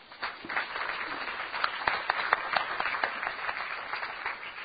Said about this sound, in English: In 3 years, we've distributed over 2 million pounds of food. So give yourselves a big round of applause.